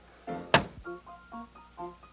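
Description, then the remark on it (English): A cash register: a sharp mechanical thunk, like the register drawer banging open, followed by a quick run of short, bright tonal beeps or chimes at a steady, even pace. “Oh, the sound of the cash register.”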